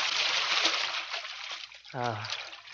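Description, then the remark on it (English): Someone slips into a pool at the ladder with steady splashing and sloshing, a continuous watery wash; near the end a short voiced exclamation rises over the splashing. “It's good to get into the water.”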